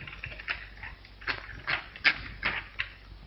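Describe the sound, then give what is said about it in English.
Irregular clacks of a typewriter as a woman finishes typing a letter, a half-dozen sharp keystrokes spaced unevenly over a faint background hum, moderately loud, with no one speaking. “Beaming, he bends down to watch her finish typing the letter.”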